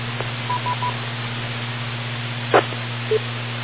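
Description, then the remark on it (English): Three quick, faint call-waiting telephone beeps from an incoming phone call in a row over a steady low electrical hum, followed by a brief crackle and one more short beep. “I got a kind of a phone call waiting here around the side.”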